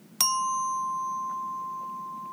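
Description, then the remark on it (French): A single clear strike of a small bell signalling the end of a relaxation exercise, its bright tone ringing on and fading slowly over a couple of seconds against quiet background hum. “Après une minute, tu entendras le son d'une petite cloche comme celle-ci.”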